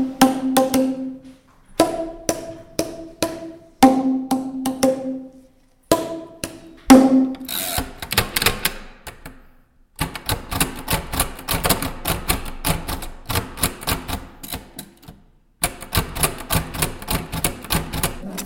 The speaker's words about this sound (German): So klingt es, wenn ich mit meiner blinden Schreibmaschine schreibe. Wenn die Zeile aus ist, klingelt es immer.